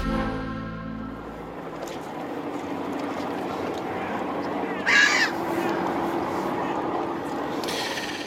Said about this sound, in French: Et vous vous demandez sûrement pourquoi on entend des mouettes maintenant, parce que Sébastopol